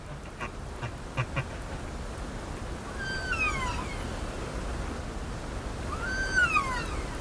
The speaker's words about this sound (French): I don't want to talk on top of the whales because they're... Je voudrais pas mettre ma voix sur le son des baleines parce que c'est vraiment quelque chose d'extraordinaire.